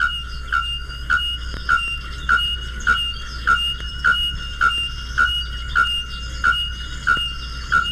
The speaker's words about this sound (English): This is the ringing mating note of the bare-throated bell bird.